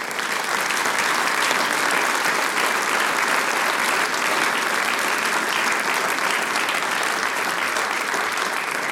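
Steady, dense audience applause fills the whole stretch, many hands clapping at an even, loud level without pause or swell, no voices rising above it.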